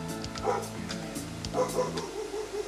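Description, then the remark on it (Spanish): A neighbour's small dog barks and yips several times in quick, uneven bursts over a steady low hum in the background. “Oye, el perrito del vecino, Dios santo, no me deja trabajar en paz.”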